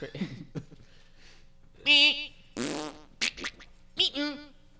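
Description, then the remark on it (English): A voice imitates fart sounds: several loud, buzzy sputtering bursts come in quick succession, separated by brief pauses, with a bit of faint talk at the start. “And bird and weird shit, fart sounds. Yeah, like that.”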